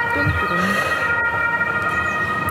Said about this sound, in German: Da ist ja ganz schön was los bei dir im Hintergrund. Bevor wir da jetzt gegen anschreien, lassen wir vielleicht mal hier den Krankenwagen passieren.